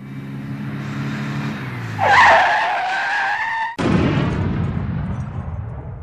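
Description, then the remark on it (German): A car engine hums on a motorway, then tires screech loudly in a long skid before an abrupt crash, followed by a broad noisy rumble of impact and debris fading out. “Eines Tages fuhr er über die Autobahn und da passierte ein schrecklicher Unfall.”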